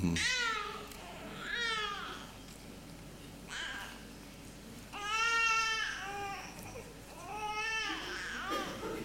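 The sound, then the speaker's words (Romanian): A small child cries in a church in several drawn-out, wavering wails, separated by short pauses. The crying is fairly loud and echoes slightly. “La noi în biserică trebuie să vă obișnuiți cu asta. Că avem așa de mulți copii mici”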